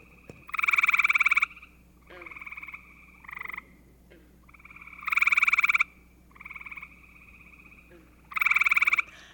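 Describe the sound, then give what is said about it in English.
A gray tree frog gives loud, musical trills: three long buzzy bursts alternating with shorter, softer trills in a steady back-and-forth rhythm, with no talking. “Today we're talking about vernal pools, the temporary but vibrant habitats that show up every spring and are home to creatures like the gray tree frog.”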